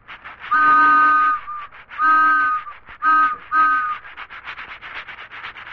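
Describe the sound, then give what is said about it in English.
A little toy train runs around its track, picking up speed, with a steady rasping chuff, sounding four toots of its whistle: two longer blasts, then two short quick ones, before the chugging carries on alone. “There they go in the little toy train. Oh, they're beginning to get up speed already.”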